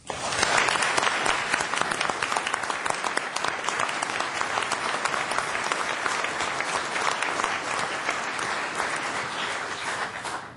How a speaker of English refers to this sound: I ask that you join me in applause to once again acknowledge and recognize Carl for his service.